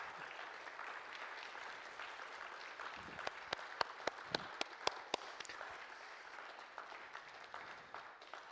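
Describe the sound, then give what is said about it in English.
A church audience applauds a speaker steadily for several seconds, a dense wash of clapping with a handful of sharper, louder individual claps popping out near the middle before it settles back down. “Can we give him another round of applause, please?”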